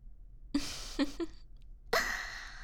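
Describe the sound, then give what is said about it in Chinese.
A person imitates a dog panting with its tongue out while being patted on the head, with a few short, breathy huffs and then a longer exhale, fairly loud, with no speech. “不对啊，摸头的时候狗狗要伸出舌头大喘气的。”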